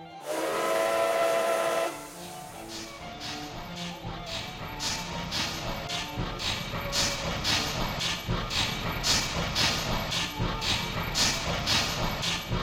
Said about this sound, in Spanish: Hoy día, el Tren de la Fresa recrea el viaje decimonónico con una locomotora de vapor de mediados del siglo XX con vagones de madera y azafatas vestidas de época